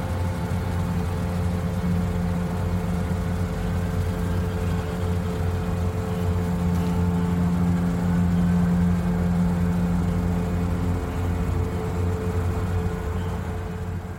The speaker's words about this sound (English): I'm picking up all sorts of stuff there. I'm hearing traffic noise, I'm hearing trains, I'm hearing sirens in the background, all that kind of thing.